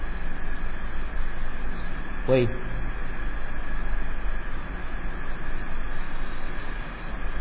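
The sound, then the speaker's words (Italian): A passing train rumbles steadily and loudly throughout, with one brief sharp clatter partway through, while a man speaks a single word over the noise. “fa un bel rumore il treno.”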